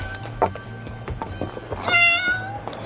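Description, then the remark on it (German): High-pitched mewing of two kittens in a cardboard box in a kitchen: a brief squeak early on, then a louder, drawn-out mew near the end, over a low steady background hum. “Am Abend versammelten sich die Mädchen und Frau Martin aufgeregt in der Küche um den Karton mit den beiden Kätzchen.”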